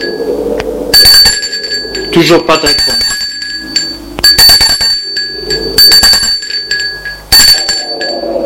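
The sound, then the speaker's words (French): A doorbell at the door of a chalet rings four times in bright, metallic bursts spaced a second or two apart, with a voice speaking briefly between the rings. Snow lies thigh-deep and it is very cold. “Ils sonnent à la porte du chalet. Pas de réponse. Sonne plusieurs fois.”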